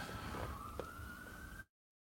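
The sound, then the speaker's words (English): An emergency vehicle siren passing outside wails faintly in a single sustained, slowly rising tone over low background rumble, then cuts off abruptly after under two seconds. “There are the sirens.”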